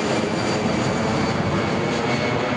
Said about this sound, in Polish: Ryk silników wzmaga się w niesamowity sposób. Znów sygnały. Samolot przeleciał tuż nad nami.